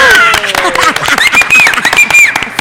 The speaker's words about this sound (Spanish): ¡Nos aplaudimos nosotros!